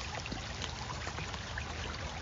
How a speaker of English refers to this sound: And you can just listen to the creek all day. I like it a lot.